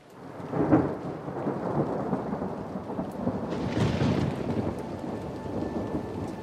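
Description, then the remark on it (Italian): Steady rain pours down continuously in the dark beside a dark lake, a dense hiss with a low rumble of thunder rolling underneath. No voices, just the sustained wash of a downpour. “È buio. C'è solo la pioggia e il lago scuro.”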